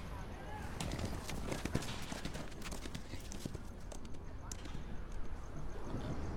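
Quick, uneven hoofbeats of a foal running in circles in a corral at a farm at night, a busy scatter of clops over a steady outdoor background, with a few sharper, louder strikes standing out.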